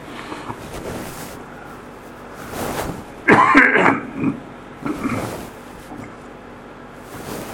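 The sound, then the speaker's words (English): A person with a post-nasal drip clears their throat and coughs a few times, harsh raspy bursts clustered together, with a low background rumble and no talking. “I'm not dying, I'm like... No, I just have a post-nasal drip.”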